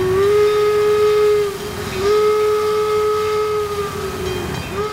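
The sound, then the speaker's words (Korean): A steam train, the special train carrying Abraham Lincoln's remains home to Illinois, rumbles along with a loud, sustained whistle blowing in long blasts, briefly dipping and rising again, over a steady low chugging and hiss. No voices are present. “그리고 나서 유해는 특별 열차에 실려서 고향인 일리노이로 돌아갔습니다.”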